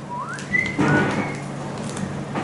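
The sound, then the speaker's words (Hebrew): A WhatsApp-style notification chirp: a bright tone that slides upward and holds briefly, followed by a short crackly burst and a second high blip, with no talking. “באמצע שאתה קורא את הניילון, אתה פתאום שומע צמצות של הוואט.”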